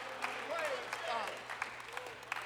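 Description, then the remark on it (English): A crowd claps steadily with dense, overlapping applause, a few sharper claps standing out, while voices call out and cheer over it; a hand clap of praise to God after someone was baptized. “Why don't we give God a hand clap of praise?”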